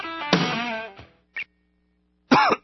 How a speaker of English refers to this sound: I am the Ricola Mystery Cougher. If you hear me coughing